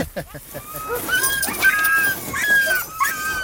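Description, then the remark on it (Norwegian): Many Greenland sled dogs in a dog yard lined with rows of small doghouses whine and yip together in a continuous, excited chorus, eager to be harnessed to the sled, with high thin whimpers rising and falling over a busy background of barks, fairly loud. “I hundegården står det rad på rad med små hundehus, med hver sin hundebeboer som alle ivrige etter å bli spent foran sleden.”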